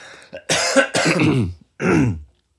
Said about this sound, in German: Ich muss husten.